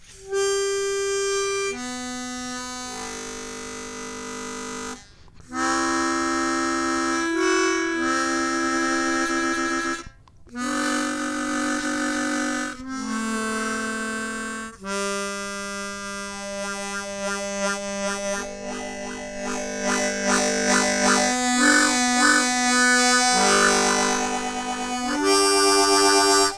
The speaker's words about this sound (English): Let's see if we can freak out the cat. Look here, it's the harmonica. Listen.